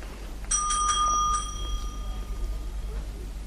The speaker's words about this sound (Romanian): Te rog, sună clopoțelul. Am nevoie de Fellows.